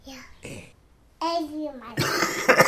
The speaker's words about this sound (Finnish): Oi, ei, sullakin on yskä.